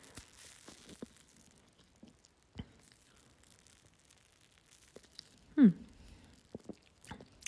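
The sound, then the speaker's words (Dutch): Quiet mouth noises of a person sipping coffee: small wet clicks and lip smacks, then a louder slurp and swallow about two-thirds through, followed by a few more soft clicks. No one speaks. “Even een slok van mijn koffie drinken.”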